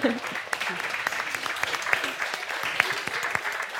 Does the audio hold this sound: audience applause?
yes